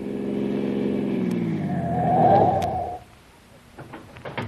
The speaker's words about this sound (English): Car behind is coming fast. Good. Now, when you get to that big billboard up ahead, pull off the road and stop.